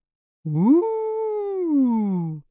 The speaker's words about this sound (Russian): Раздался страшный вой, но через секунду все стихло.